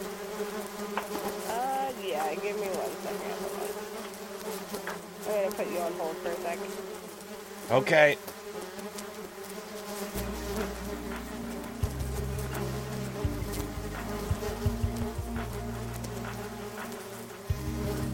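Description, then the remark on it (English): A steady, dense buzzing of many bees at their new hive at a travel stop hums continuously throughout, with a brief voice speaking once and some low rumbling and clatter in the background. “I'm not sure if anybody's allergic to bees.”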